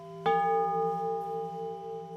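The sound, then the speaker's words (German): A small Nuremberg bell is struck once and rings on clearly, its bright, shimmering tone sustaining and fading only slowly. No one speaks. “Seine Nürnberger Glöckchen sind nämlich fast überall zu hören.”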